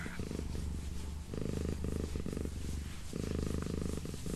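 A domestic cat purring while being petted and kneading, a steady low rumbling that swells and eases in rhythmic cycles with each breath, continuous and fairly loud with no talking.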